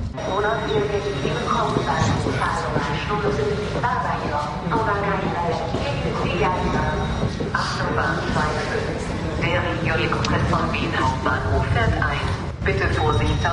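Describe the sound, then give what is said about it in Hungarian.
A train rumbles steadily into the station at Sopron, Hungary, a continuous low mechanical roar filling the scene, with indistinct voices and station chatter mixed in around it. “Befutott a vonatunk Sopronba, és az az érdekesség, hogy itt az állomáson belül is képzeljük, nagyon sok minden sárga, illetve a zöld színben játszik,”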